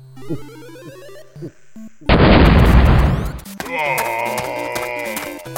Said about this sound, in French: Incroyable. Il a arraché la porte.